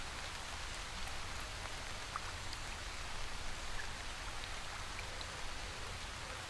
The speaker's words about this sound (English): Until, through a small gap in a faraway bush, you see a clearing in the tree line. And beyond it, the movement of flowing water.